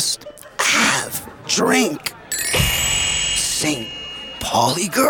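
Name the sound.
sneeze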